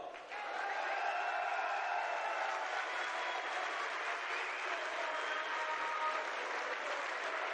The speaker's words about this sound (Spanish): otro gran aplauso.